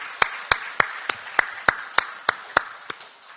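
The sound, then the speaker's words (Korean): An audience claps together in thanks and praise to the risen Jesus, in a steady, even rhythm, about eleven sharp claps roughly three per second over a soft crowd wash, tapering slightly at the end. No one speaks. “우리를 구원하신 부활하신 예수님께 감사와 찬양의 박수로 영광 올려드리겠습니다.”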